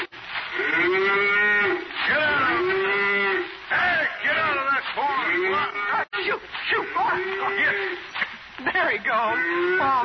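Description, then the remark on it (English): Several cows in a cornfield moo repeatedly and loudly, long drawn-out lowing calls overlapping one another in a continuous chorus, with barely a pause between them. “If anybody told me yesterday I'd be playing tag in a cornfield with a lot of cows, I'd...”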